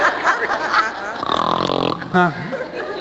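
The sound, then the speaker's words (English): A man who is 100 pounds overweight snores loudly and raggedly, with guttural, snorting breaths that grow more voiced and rumbling, ending in a throaty snort. “He's 100 pounds overweight, snoring like a bear.”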